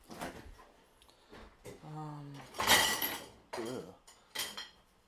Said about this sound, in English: I gotta be quiet. There's no quiet way to do dishes, is there?